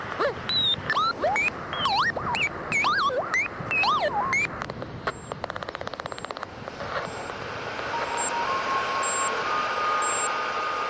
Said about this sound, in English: Domestic Weather Experiment 1, High Winds and Hairdryer.